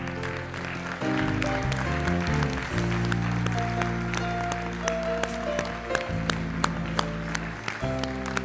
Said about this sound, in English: Let's give the Lord God a good clap offering on his behalf. That doesn't sound like a good one.